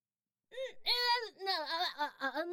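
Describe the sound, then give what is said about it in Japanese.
A person whimpers and cries in a short burst of wavering, high-pitched sobbing. Several strained, quavering moans run together after a brief silence, with no words spoken. “泣いてんのか。”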